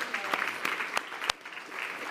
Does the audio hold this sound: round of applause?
yes